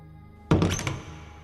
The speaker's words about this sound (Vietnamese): Tuy nhiên, Lý Đạo lại không có ý định này, đưa tay đẩy cửa lớn.